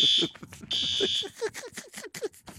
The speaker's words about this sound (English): The fire alarm just went off. Scared the crap out of me. The fire alarm has gone off here at our studios.